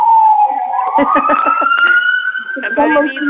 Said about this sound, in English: I'm sorry, it's impossible to hear. There's a siren that is...